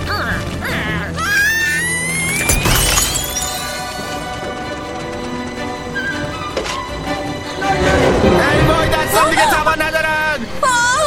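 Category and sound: impact, glass being smashed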